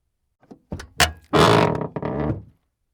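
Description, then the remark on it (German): A door opens with a quick series of clunks and knocks from the latch and handle, then a loud creaking, rattling swing that fades out, with no voices. “Jemand öffnet die Tür.”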